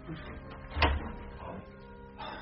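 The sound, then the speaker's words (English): A door being opened: one short, sharp clunk with a low thump, followed by soft rustling and faint shuffling sounds at a quiet level. “Open the door, Mr.”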